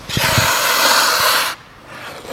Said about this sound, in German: Und ja, was Möglichkeiten habe ich denn zu bremsen? Eine Variante wäre es einfach, den Fuß hinten schleifen zu lassen.